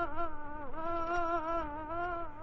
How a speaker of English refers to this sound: A difficult question to answer, but perhaps this story begins with a fly. Yes, an ordinary, pesky, buzzing fly.